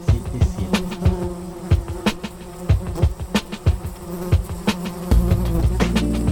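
A steady fly buzz drones and wavers in pitch, punctuated by sharp clicking taps throughout, swelling louder in the final second. No one speaks.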